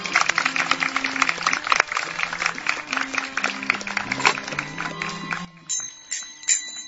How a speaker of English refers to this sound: Please give your full applause.